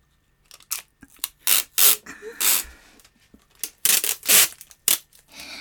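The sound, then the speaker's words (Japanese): Loud ripping sounds of vinyl tape being pulled off the roll and torn to tie the legs, about a dozen harsh bursts of varying length in an irregular rhythm, with no talking. “まずこれでビニールテープで足を、M 字開脚のままで縛りたいと思います。”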